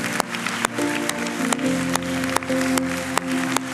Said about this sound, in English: And can we clap for the greatest runner of all time, the Lord Jesus Christ? Come on.